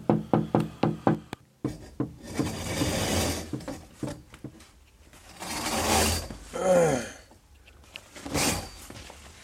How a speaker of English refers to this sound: He's got a stick that he props up against the wall outside, and he just sort of taps on my window kind of lightly. Can you hear it? It's right at 8 o'clock. That's it. That's the knocking.